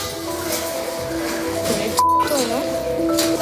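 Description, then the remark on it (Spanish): A brief, steady high-pitched censor beep cuts in over background voices and noise, blanking out a girl's words to a boy in a Superman cape, in a recreated scene of children playing at Parque Mágico in Dos Hermanas, Seville, before the murmur of talk resumes. “En ese pitido que han escuchado van tapadas las palabras de la cría al niño de la capa.”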